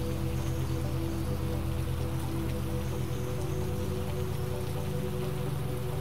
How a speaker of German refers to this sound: Leere Straßen. Eine unheimliche Stille. Nur der Regen hält sich nicht dran.